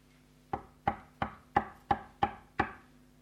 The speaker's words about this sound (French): Voici, je me tiens à la porte et je frappe.